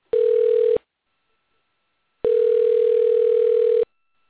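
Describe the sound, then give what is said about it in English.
A phone ringback tone heard through a line: two steady electronic buzzes, a short one then a longer one after a pause, with no one picking up. “No, they're not going to answer, so I'll cancel that out.”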